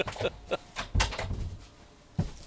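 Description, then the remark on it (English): A door is pushed shut with a solid thump, preceded by shuffling and handling noises and followed by a second softer knock. “I was just thinking I might just shut the door because Andrew's just arrived, so there's some noise from downstairs”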